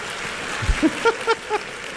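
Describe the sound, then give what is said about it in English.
A crowd claps steadily in a dense, even wash of applause, with a few short voiced calls or whoops popping up briefly over the clapping. “Dharma of a clapper is to clap.”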